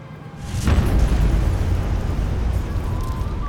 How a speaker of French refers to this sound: L'explosion a creusé un cratère là où se trouvait la ville. Les décombres des immeubles sont retombés en périphérie.